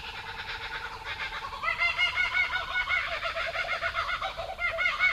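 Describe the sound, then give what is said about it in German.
A laughing kookaburra in Australia gives a raucous call that builds into a loud, rapid cackling chorus of repeated hooting chuckles. A second kookaburra joins in and an Australian magpie is faintly audible. The sound is continuous, with no talking over it. “Das ist der Laughing Kookaburra.”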